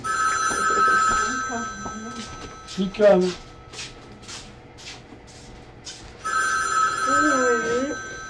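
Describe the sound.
A telephone bell rings loudly in two long bursts, one at the start and another near the end, with a quiet pause between them while a person speaks briefly.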